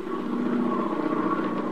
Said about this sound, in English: We bring you now the sound of an aeroplane.